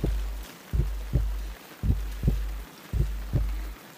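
A muffled human heartbeat, heard with a head resting on the chest, thumps steadily in deep low pulses, paired lub-dub beats repeating at a calm rhythm over a soft hum, with no voices.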